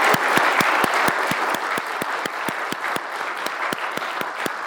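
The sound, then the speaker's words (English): An audience applauds steadily for a special speaker, a dense wash of clapping with one sharp, evenly paced clap cutting through about five times a second, holding a constant loud level throughout without any talking. “Let's give another round of applause for our very special speaker today.”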